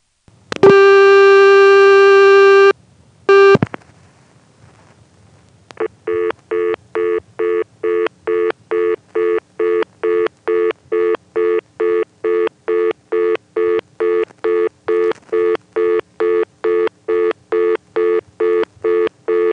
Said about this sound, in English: This time I'm dialing a bad digit into the trunk, and you'll notice the reorder once again demonstrates an all-relay system having weird timing on its tones.